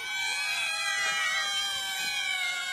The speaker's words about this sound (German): Aber klar, so klingt eine Katze. Und so klingen viele Katzen. Kein Witz.